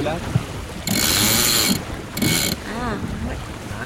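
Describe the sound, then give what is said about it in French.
A sailboat winch on an 8-metre boat ratchets in two bursts, a long clicking run then a shorter one, loud, as the genoa is trimmed to heel the boat, with faint voices and wind in the background. “De gonfler un peu le génois pour appuyer un peu ce bateau.”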